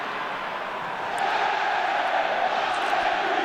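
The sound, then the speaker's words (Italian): A big stadium crowd of Atlético Madrid football fans roars and chants in a dense, continuous wall of sound that swells louder after about a second and stays loud, with no clear talking. “Stiamo un attimo i tifosi dell'Atletico, che comunque si fanno molto sentire.”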